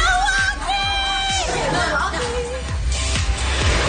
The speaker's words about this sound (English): They were screaming and singing and dancing at the airport.